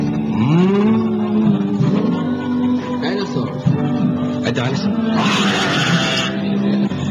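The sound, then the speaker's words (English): A child's voice imitates an elephant with a long, loud, rising trumpet-like call held for several seconds, ending in a breathy, blaring burst. “An elephant? Show me an elephant.”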